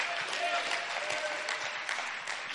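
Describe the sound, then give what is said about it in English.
A church audience clapping hands in worship, a steady, dense wash of applause, sustained and fairly even in loudness throughout, with faint voices mixed underneath. “We've clapped our hands.”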